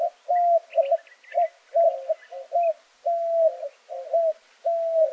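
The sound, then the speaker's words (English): A white-winged dove coos in a steady, repeating series of hollow, mid-pitched notes grouped into short rhythmic phrases, clear, with faint higher chirps behind and no talking. “In the desert southwest, white-winged doves time their migration to sync up with the saguaro's reproductive cycle, to the benefit of both species.”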